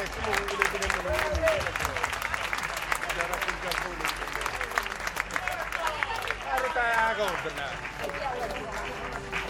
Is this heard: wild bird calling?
no